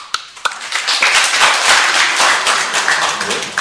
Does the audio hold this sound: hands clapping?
yes